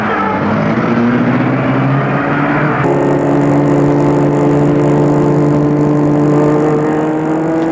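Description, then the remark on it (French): A car engine hums loud, its steady droning note shifting higher partway through as the car is started and driven off toward a house, with no voices. “Elle retourne dans la voiture, puis la met en route.”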